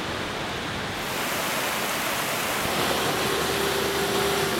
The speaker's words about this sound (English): Look how much rain is coming down.